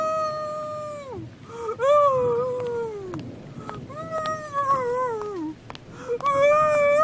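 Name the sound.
woman screaming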